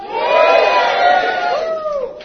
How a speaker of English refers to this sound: And as you just heard, we've got a good, enthusiastic, energetic crowd.